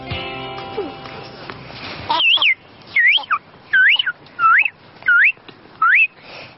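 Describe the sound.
An 8-year-old girl's voice imitates birdsong: six clear, loud warbling calls that swoop up and down in pitch, evenly spaced after a brief murmur of other sound at the start.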